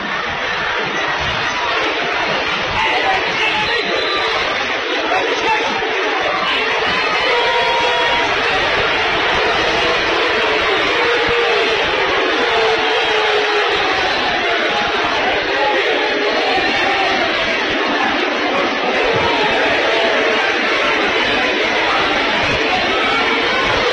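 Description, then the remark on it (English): Fleming County fans at a basketball game scream and roar without letup before a technical foul, a dense, loud wall of cheering voices that holds steady at full volume for the whole stretch. “Fleming County fans spinning for screaming before a technical foul.”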